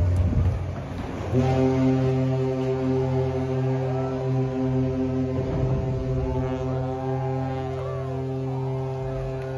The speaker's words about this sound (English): Anyway, they just completed the first one and launched it over the weekend. This is the Coast Guard cutter Argus going into the water.